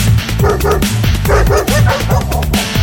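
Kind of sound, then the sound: animal, dog barking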